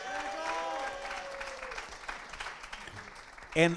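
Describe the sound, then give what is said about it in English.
An audience claps steadily in a dense, crackling wash of applause, with a few scattered voices and a short, loud vocal whoop rising near the end. “And let's don't clap yet, because I want to say it.”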